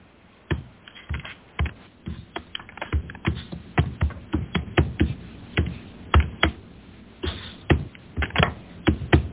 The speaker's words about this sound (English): That sounds like somebody hammering on a keyboard. I thought somebody wanted to ask a question.